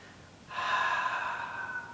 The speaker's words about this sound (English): You just feel the sound H. A-H-A-W. Think that you're exhaling excess heat. So let's try. Take a nice inhale. I like to think of myself as a dragon breathing this fire.